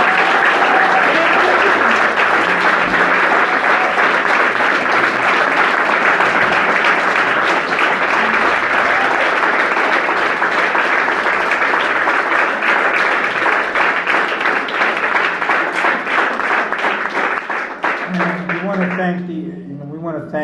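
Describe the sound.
An audience breaks into sustained applause for a guest speaker at an organized event, a dense, steady wash of many hands clapping at full loudness for nearly twenty seconds, thinning slightly at the end as a voice begins.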